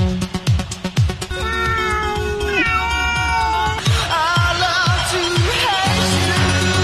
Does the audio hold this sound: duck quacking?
no